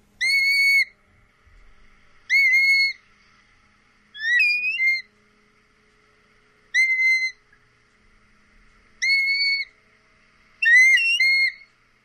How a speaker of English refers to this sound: Black-bellied plovers have quite a distinctive plaintive whistle call that some consider the characteristic sound of the winter beach. See if you agree.